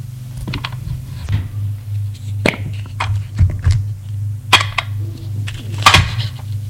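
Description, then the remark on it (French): A medicine cabinet door clicks open, followed by scattered taps and rattles as a small tube of pills is handled, all over a steady low hum with no voices. “Ouvre l'armoire à pharmacie. Prends un tube de comprimé.”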